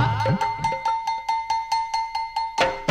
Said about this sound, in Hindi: खाना है तैयार घंटा बजा।